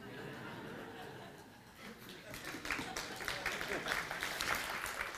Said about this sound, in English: Don't clap, because I still got 30 minutes more.